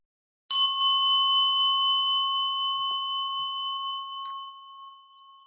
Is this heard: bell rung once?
yes